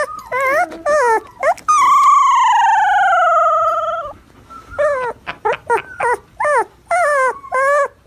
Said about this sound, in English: He's adorable. I would say he's maybe 3 weeks old. Baby husky puppy, little puppy dog. And he's trying to learn how to howl. And he just can't do it. He ends up sounding like a miniature Chewbacca.